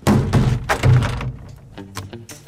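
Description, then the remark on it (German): A series of heavy thunks and knocks as a hideout door is shoved and thuds shut, followed by lighter rattling and clicking sounds as it is locked with a bicycle lock. “Ich schließe die Tür zu, damit wir für immer zusammen in unserem Versteck bleiben.”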